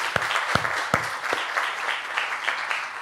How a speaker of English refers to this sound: he deserves a round of applause this morning.